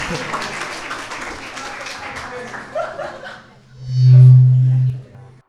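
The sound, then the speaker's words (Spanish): An audience applauds with dense, steady clapping that gradually thins out and fades over a few seconds, followed by a brief loud low hum. “Un aplauso, por favor. Un aplauso para ellos.”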